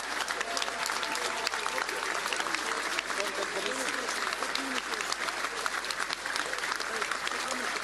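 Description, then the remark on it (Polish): Sustained crowd applause for the Trzecia Droga (Third Way) activists at a post-election event in Poland, a dense, steady wash of many hands clapping at an even loudness, with occasional cheers and indistinct voices mixed into the noise. “Wielkie brawa dla was!”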